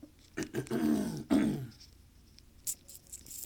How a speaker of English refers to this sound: Sorry, excuse me while I clear my throat.